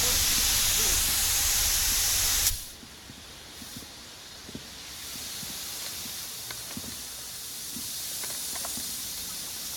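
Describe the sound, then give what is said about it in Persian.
A loud, steady hiss of steam escaping from a steam vent fills the first couple of seconds, then cuts off abruptly, leaving a quieter, murky background with faint scattered clicks and rumbles. “ما نقشه حرارتی و از دریچه بخار تا اوزایرس دنبال کردیم.”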